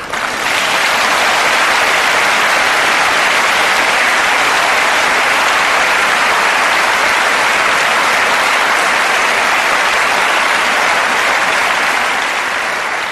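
long applause

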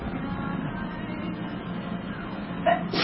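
sneeze

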